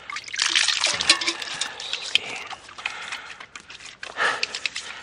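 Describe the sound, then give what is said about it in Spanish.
Trickling water with wet rubbing and splashing as someone washes their hands with soap and water, like under a running tap, continuous for several seconds with small surges. “Antes de tocar la herida que te has hecho, voy a lavarme yo las manos con agua y jabón.”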